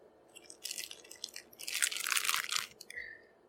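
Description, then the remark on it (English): Loud crunching as someone bites into a crispy Nutter Butter peanut butter cookie and chews, bursts of brittle crackling in quick succession with a short pause between bites. “It's got a really good crunch.”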